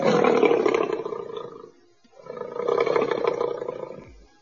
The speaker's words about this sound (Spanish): ¿Qué sonido hace un león? Ok, Google, ¿qué sonido hace un león? Este es el sonido que hacen los leones.